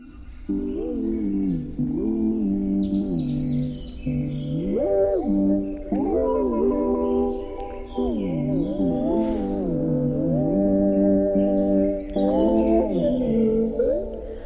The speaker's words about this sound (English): There's a bird at 6 a.m., which you hear. Between 5:45 and 6 a.m., you know if you hear those birds, then it's time to wake up.